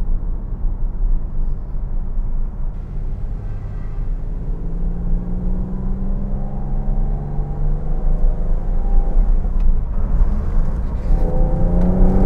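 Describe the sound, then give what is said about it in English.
A car's noisy exhaust gurgles and rumbles steadily as the engine accelerates on a road near a construction site, the pitch climbing through rising harmonics over a constant low drone, fairly loud with no talking. “See, the problem with the really noisy exhaust is that you just stand out.”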